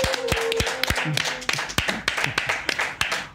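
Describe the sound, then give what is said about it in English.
Audience applause welcoming a rapper as a guest: a steady, loud wash of clapping, with sharp individual claps popping out irregularly and a faint whistle-like tone early on. Nobody speaks. “Without further ado, let's give a warm welcome to the man, the legend, the myth, Mr.”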